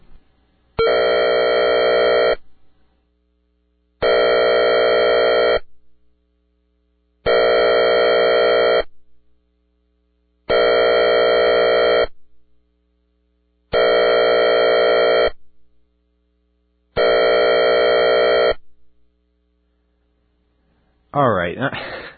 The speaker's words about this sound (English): Now, you're going to hear an example of this, and you're going to hear the guy's voice again, so don't panic when you hear that. The all-clear signal. Discontinuous air horn.